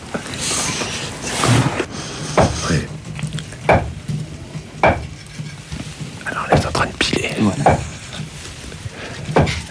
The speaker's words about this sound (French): est grillé maintenant, qui est torréfié. Les petits grains de café sont tout noirs et luisants. C'est magnifique, hein?